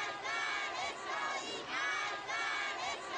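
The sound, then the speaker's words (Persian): A large crowd shouts pro-Palestinian protest chants in unison, including "Death to Israel" and "We are with you Palestine", rising and falling in rhythmic waves of many voices, loud and sustained throughout with no pauses. “رسالتی که محکمتر از همیشه در پشت این فریادها نهفته است.”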